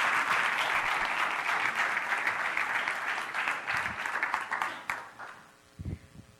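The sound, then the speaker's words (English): A crowd applauds steadily for a woman who had just shared with them, a dense wash of many hands clapping at once, holding strong for about five seconds before tapering off, followed by a brief low voice as the clapping dies away. “Why don't you guys give her a round of applause?”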